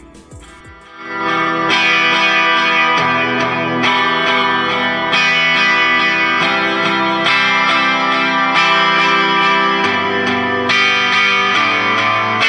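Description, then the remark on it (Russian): A loud, dense rock song plays with distorted, effects-heavy guitars and steady sustained harmonics, kicking in after a brief quieter opening and holding full volume throughout. “Песне удается держать напряжение слушателя от начала и до конца, предвкушая новые откровения с каждой строчки. Послушайте сами.”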